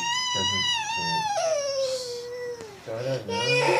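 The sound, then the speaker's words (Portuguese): A baby boy cries in one long, high-pitched wail that slowly drops in pitch, loud, while an adult talks softly over the start and end, asking in Portuguese what is wrong and whether he is sleepy. “Agora, o que foi, neném? O que foi? Ele tá com sono?”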